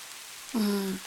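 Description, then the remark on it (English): Soft, steady patter of rain falling outside makes a faint, even hiss throughout. About halfway through, a short hummed vocal tone rises over it and then fades. “It's raining outside.”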